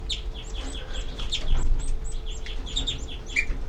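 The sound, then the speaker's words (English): A dense chorus of high, thin begging calls from several baby birds, repeated rapidly and overlapping, with a low steady rumble of background noise underneath and no talking. “These are the babies giving begging calls.”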